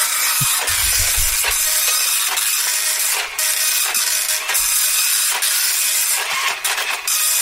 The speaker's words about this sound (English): Sorry, it's quite... a slow printer